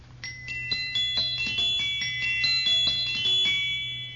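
A glockenspiel plays the Bell Song from Lakmé by Delibes, a quick, bright melody of ringing metallic notes, each struck note chiming and overlapping the next, with a low steady hum underneath throughout.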